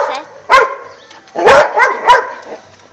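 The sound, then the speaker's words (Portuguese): A small dog at a gate barks: one sharp bark, a short pause, then a quick run of three more barks, loud and clear with no talking over them. “Tem cachorro aqui, gente.”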